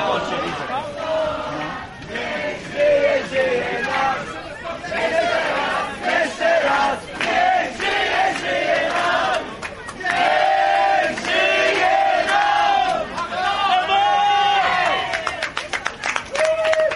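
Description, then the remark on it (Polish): Fans shout and chant together in a steady, overlapping roar of voices, with raised calls and scattered clapping, at a family-style celebration they organised for a competitor in the parking area just after the competition. “A taką rodzinową fetę kibice zorganizowali Przemkowi tuż po zawodach w parkingu.”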